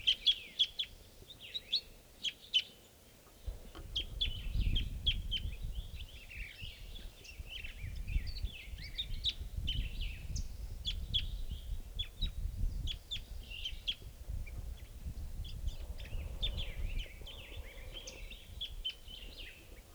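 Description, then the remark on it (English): Repeated high, bright calls of a crossbill in the treetops chirp in quick bursts throughout, over a steady low rumble that grows louder after the first few seconds. “So we're coming at 7:54 now, and there's a bird, crossbill, calling a lot from the treetops here.”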